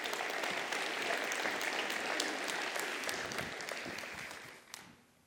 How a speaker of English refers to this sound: So let's honor her courage and give her our attention, and just give her a little round of applause of welcome.